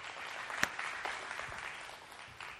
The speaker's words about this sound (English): So just a second, we clap. But let's do it again. Let's honor our team, our pastors.